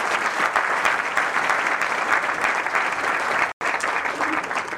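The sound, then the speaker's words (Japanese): Dense, steady applause from an audience thanking the lecturer at the close of a commemorative lecture for the 100th anniversary of Maehata's birth, at an even volume, broken by one abrupt silent gap of a fraction of a second near the end, with no voices over it. “皆様もう一度拍手でお願いいたします。”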